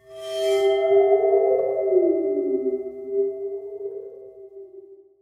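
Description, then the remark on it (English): A waterphone, a metal instrument with some water at its bottom, rings out with a bright scrape at the start, then sustains and wobbles, its pitch bending and warbling as it slowly fades. No voices are heard. “It's a water phone. Water phone, yes. Which is like this metal thing that has some water at the bottom of it.”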